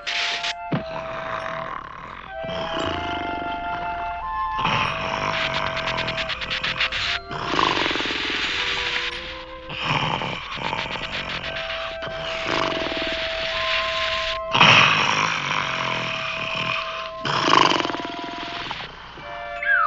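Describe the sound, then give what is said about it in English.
Loud, exaggerated snoring repeats in steady cycles every couple of seconds, rumbling, roar-like inhales alternating with whistling tones, with no talking. “you're snoring.”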